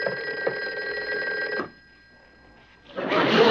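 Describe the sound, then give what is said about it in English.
A secret agent's hotline telephone bell rings loudly in two bursts, a long ring followed by a pause of over a second, then a second ring starting. No one speaks. “No, not that phone, 99. It's the secret agent's hotline. I'll get it.”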